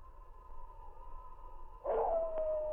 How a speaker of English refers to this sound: The sergeant and Bud could hear a wolf or a dog howling as they started through the forest